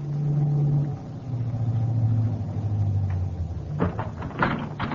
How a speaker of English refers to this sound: And then, about a half hour, a car pulled up in front of the hotel.